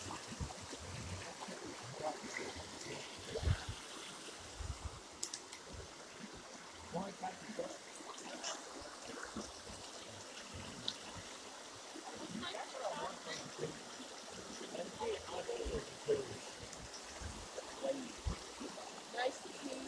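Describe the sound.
Loud running water rushes steadily throughout, a dense, continuous splashing roar, with occasional faint voices mixed in beneath it.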